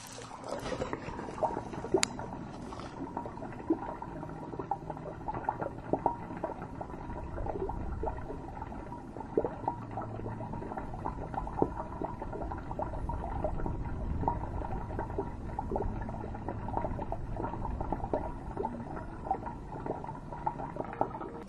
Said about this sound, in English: But that's why we're getting it recorded now. So take a listen, and you'll hear a river of living water below the empty cross in Kerrville, Texas.